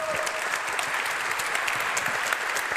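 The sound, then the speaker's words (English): An audience claps steadily to welcome a speaker before a talk, a dense, sustained round of applause, many hands blending into a continuous crackling wash with scattered sharper claps throughout. “Please welcome her with a great round of applause.”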